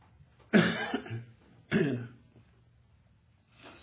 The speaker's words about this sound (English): I apologize for the coughing, but you know, sometimes your throat says cough, you just have to cough. I'm sorry. I don't have the willpower not to do it.